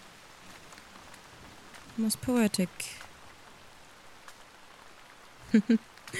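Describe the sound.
Steady rain patters on a surface throughout, a soft constant hiss with scattered drops, while a voice speaks briefly twice over it.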